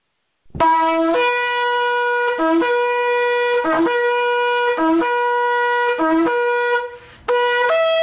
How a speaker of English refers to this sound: if you would please release the sound of the shofar and the roar of the Lion of Judah